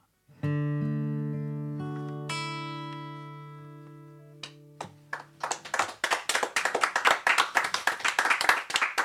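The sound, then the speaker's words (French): A song ends on a long sustained chord that slowly fades, then a small group of guests in a studio breaks into lively clapping that grows denser and louder until the end. “Et pour une fois, il y a plein de monde dans le studio pour applaudir avec nous, parce que les invités précédents sont restés.”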